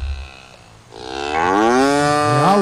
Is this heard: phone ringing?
no